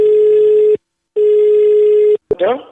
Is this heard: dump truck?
no